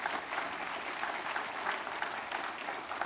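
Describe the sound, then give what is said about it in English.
Steady, sustained applause from a large gathering, given as a morning clap offering, dense rapid clapping filling the space evenly without pause, moderately loud with a slight crowd murmur underneath. “Would you give a good clap offering this morning?”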